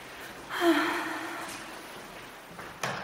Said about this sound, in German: Entschuldigung, ich schniefe auch schon wieder die ganze Zeit. Ach, das ist so übel.